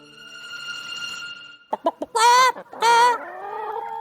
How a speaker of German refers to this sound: Einem Huhn? Du veräppelst uns doch schon wieder.